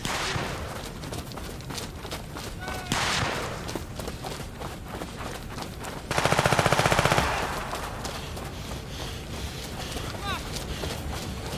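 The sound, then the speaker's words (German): Repeated bursts of gunfire crackle throughout, with one loud, sustained rapid-fire volley in the middle, while indistinct voices murmur underneath; the shots are fired into the sky, not at people. “Es fallen auch Schüsse in den Himmel, die haben geschossen.”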